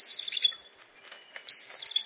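A bald eagle, the official bird of the United States, about 3 feet tall with a wingspan of more than 6 feet, gives thin, high, squeaky calls like a creaking door, in two chattering bursts separated by a short quieter pause, fairly clear.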